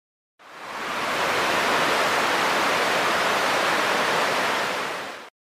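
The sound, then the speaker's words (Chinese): A huge ocean wave at the seashore roars in a loud, steady wash of hissing surf, rising quickly, holding for about five seconds, then cutting away, with no voices. The wave sweeps bird eggs into the sea. “响呢个时候，大海 就翻起一个巨浪， 将所有雀蛋都冲咗入海里边啦。”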